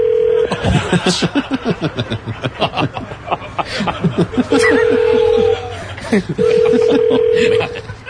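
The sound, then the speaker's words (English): A telephone rings in steady, even-pitched bursts, sounding three times with pauses between, while people talk and chuckle over the ringing throughout. “So that's what the ringer sounds like.”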